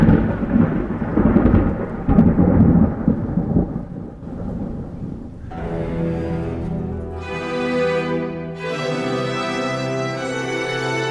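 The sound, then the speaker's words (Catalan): A loud, deep thunder rumble rolls for about five seconds, then gives way to sustained orchestral music with rich held chords, from Henry Purcell's 1682 opera Dido and Aeneas, where the witches appear at the call of thunder. “Bruixes que apareixen a la crida dels trons.”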